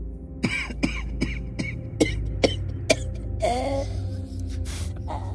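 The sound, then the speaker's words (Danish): A person coughs hard about seven times in a quick, steady series, then draws a strained, wheezing gasp. Fairly loud, with no talking. “Jeg har en helbredende drik, hvis du til hosten.”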